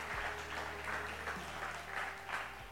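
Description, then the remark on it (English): An audience at a morning service claps their hands in sustained, dense applause as praise to the Lord, many overlapping claps forming a steady roar with a low hum underneath, and no voices standing out. “If you believe that this morning, give the Lord a hand clap of praise and appreciation.”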